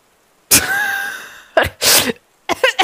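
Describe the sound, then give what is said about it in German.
A fit of harsh coughing after choking on something swallowed: one long, rasping, strained cough followed by several shorter, sharp bursts in quick succession, loud and with no speech. “Warte kurz, habe ich mich verschluckt.”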